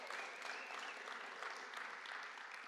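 Sustained applause from an audience, a dense, steady wash of many hands clapping at once, fairly loud and continuous throughout with no speech over it.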